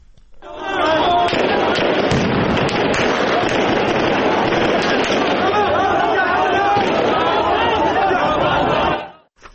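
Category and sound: gunfire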